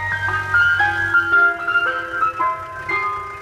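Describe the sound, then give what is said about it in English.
An ice cream truck chimes out a tinkly, music-box melody of Greensleeves, bright stepwise notes over a low engine hum, with no one talking. “Because it's been the song of choice for ice cream trucks for generations.”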